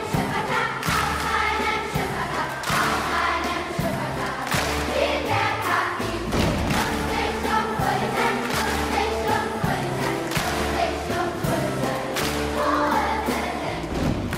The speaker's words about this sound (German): Hier machen die Vokalhelden gerade vor, wie man einen holprigen Fünfvierteltakt bewältigen kann. Mit Klatschen und Stampfen.